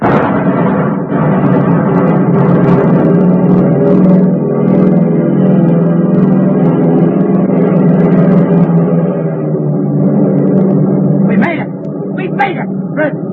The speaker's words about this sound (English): There they are. Huh? Three squad cars. Here they come. Look out for those Tommy guns.